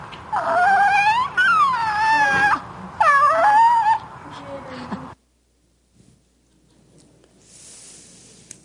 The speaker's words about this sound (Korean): 불만이 있거나 몸이 불편할 땐 칭얼거리듯 낮고 작은 소리를 낸다. 불만 울음은 태어나서 처음으로 하는 의사소통 시도이다.